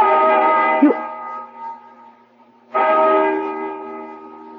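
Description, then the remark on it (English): A deep, resonant bell tolls twice, each stroke ringing out loud and slowly fading with a humming tail before the next strike, with no voices. “Listen to that bell.”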